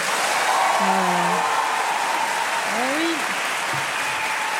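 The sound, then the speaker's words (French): Sustained audience applause as a vote by applause in favour of a proposed law on menstrual leave, a dense steady clatter of many hands clapping at even loudness throughout, with a few scattered shouts and voices rising briefly above it. “Et là, par applaudissement, qui est pour?”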